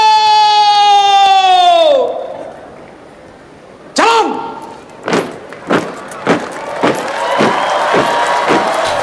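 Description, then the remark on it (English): A crowd cheers and shouts outdoors at an Indonesian flag-raising ceremony after the flag has been hoisted, the noise swelling over the last few seconds amid sharp bursts, after a long sustained horn-like tone fades out at the start. “Cheering because of how the successful day of the Indonesian flag is being raised.”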